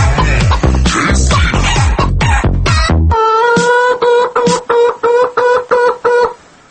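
A hen that has just woken up clucks loudly, starting with a noisy flurry of rapid squawks, then settling into a steady run of about eight drawn-out, rhythmic cackling calls.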